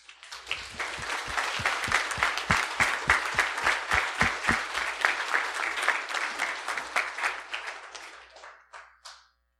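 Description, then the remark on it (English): An audience breaks into steady applause for its group leaders, many hands clapping together with sharp, rapid claps, holding strong for several seconds before tapering off into a few scattered final claps. “So can we give a round of applause for all of our leaders?”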